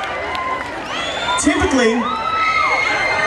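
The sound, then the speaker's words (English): A live audience at a stage show screams and cheers continuously about three feet from the performer, many high-pitched voices overlapping in a loud, sustained roar with shrill whoops rising above the din. “You ain't got to keep screaming.”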